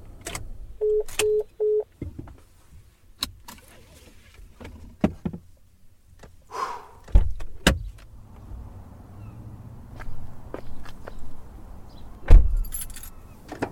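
A white truck's door opens with a click and later shuts with a solid thunk as someone gets out in the Maryhill State parking lot, after a quick series of three short electronic beeps and scattered rattling clicks. No one speaks.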